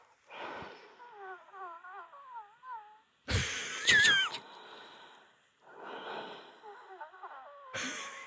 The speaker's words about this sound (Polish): Uwaga, świszczy w płucach. Tak mi świszczy w skrzelach.